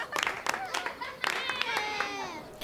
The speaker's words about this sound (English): Yeah! Hooray! Can we clap for ourselves for learning that wonderful song?